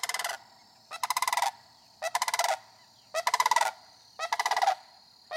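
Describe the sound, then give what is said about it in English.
The first sandhill crane of spring, flying over a house in southern Dane County, gives a loud, rolling bugle that repeats in rattling, trilled bursts about once a second, each burst rich and slightly rising, with brief quiet gaps and no voices. “I heard and then saw the first sandhill crane of spring.”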